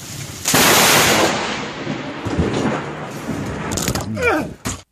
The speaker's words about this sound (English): Wow, that is truly hail, amazing. I think. Wow, listen to this. Oh my God.